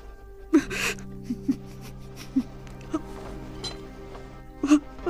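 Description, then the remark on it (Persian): A person crying, with short catching gasps and hiccuping sobs coming in irregular bursts over a low steady background hum. “گریه نکن، بشین، من ادامه میدم.”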